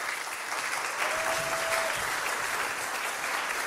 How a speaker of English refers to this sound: So just give him a round of applause as he comes on up. Is that all right?